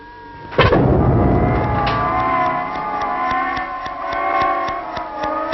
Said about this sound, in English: Minerva just exploded. That's the last of the galaxy.